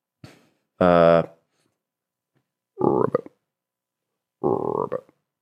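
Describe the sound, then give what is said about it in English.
A person imitates a frog croak with their voice, three short guttural bursts separated by pauses, the first louder and more resonant than the others, otherwise quiet. “I suppose that was a frog.”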